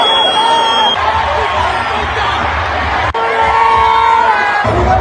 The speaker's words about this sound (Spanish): Estas son algunas recopilaciones sonoras de lo que la gente a mi alrededor estaba gritando, incluyendo los insultos al arbitraje que sí fue cuestionable, pero todos fueron misóginos